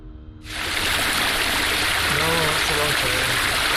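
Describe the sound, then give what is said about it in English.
A soft murmuring voice reciting a prayer in a chapel is cut off by a sudden, steady splashing stream of liquid, loud and continuous, as a monk urinates, with faint voice-like tones beneath the hiss. “Suddenly, the monk takes suddenly, a leak.”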